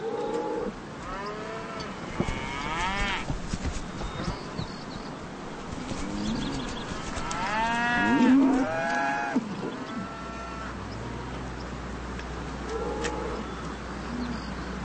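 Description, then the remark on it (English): Cattle moo repeatedly, several overlapping calls from a herd, some long and drawn out, over a steady outdoor background with a low hum building toward the end. “And of course, with the cowboys came cattle.”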